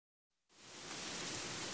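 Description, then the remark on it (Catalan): Heavy rain pours down in Gandia in a dense, steady hiss that fades in briefly, then swells abruptly to a loud, unbroken roar. No voices are heard. “Escolta, plou moltíssim a Gandia i no sé què fer demà.”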